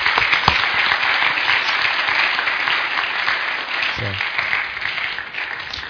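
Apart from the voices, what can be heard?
audience applause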